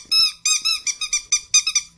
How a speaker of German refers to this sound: wenn ihr es jetzt hört, dieses Geräusch von so einem Hundespielzeug